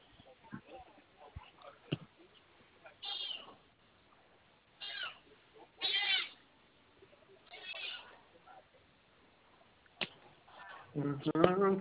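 A cat meows repeatedly, several insistent calls spaced a second or two apart, clear, with faint background rustling and a louder, drawn-out meow at the end.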